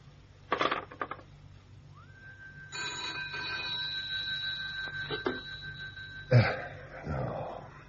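A telephone bell rings in one sustained, shimmering burst lasting a few seconds, preceded by a few sharp clicks and rattles and cut off by a heavy thump. No one speaks.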